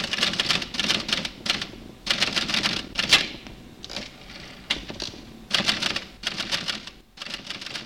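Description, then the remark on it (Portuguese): A typewriter clatters in quick bursts of keystrokes, broken by short pauses and a carriage-return ding around the middle, fairly loud with no voices. “No Brasil, o telefone, o telégrafo e a máquina de escrever só passam a fazer parte do cotidiano dos jornalistas a partir da década de 30.”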